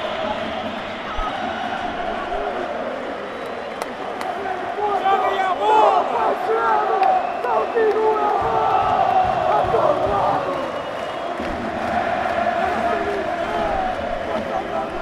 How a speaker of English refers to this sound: The Inter fans you can hear at the top of the stand feeling that not quite home and dry, but they have this under control.